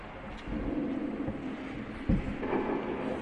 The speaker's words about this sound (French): C'est l'automne, semble-t-il. Il fait un peu frais. Il pleut, il a plu.